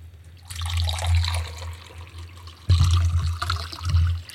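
Liquid is poured steadily into a container during a game challenge, a continuous splashing gush that swells louder partway through, with no talking over it.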